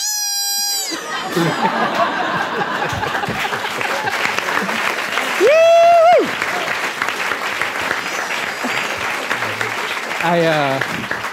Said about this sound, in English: I realize I clapped with everyone else.